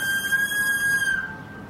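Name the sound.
whistle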